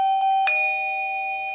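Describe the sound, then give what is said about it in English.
A clear electronic doorbell chime rings out as someone presses the doorbell of a home security system, with two tones struck in quick succession and a bright, steady ring that sustains and slowly fades. The sound is loud, with no voices. “Someone has pressed the doorbell.”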